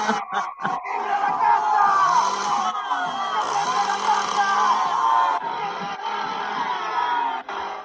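A large crowd roars and cheers continuously at a political rally in Argentina while a man waves a chainsaw around in the crowd, a dense wall of shouting voices with whoops and yells rising and falling, loud throughout.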